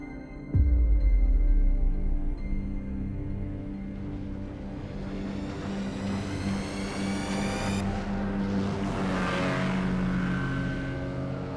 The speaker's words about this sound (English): As the motorboat roars and the spray flies, the water skier squints into the Californian sun.